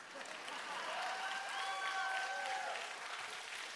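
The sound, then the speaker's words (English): Three people clap in a steady patter lasting several seconds, with faint whistle-like tones gliding through the middle of the applause. “Three people clapped.”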